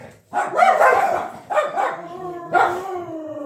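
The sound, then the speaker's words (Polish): Two dogs at home that strongly dislike each other snarl and bark at each other in a squabble, loud yelping bursts coming in three rough waves, the last trailing off into a drawn-out whine. “Awantury u nas są na szczęście krwawe. Mamy dwa psy, które się bardzo, bardzo nie lubią.”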